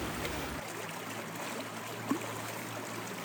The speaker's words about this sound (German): Hören Sie das Plätschern im Hintergrund? Dieses ruhige und gleichmäßige Geräusch? Das kommt aus dem Schlosshof, denn ich stehe hier gerade mitten im Kies und blicke auf den sehr gut gefüllten Kaltbach herunter,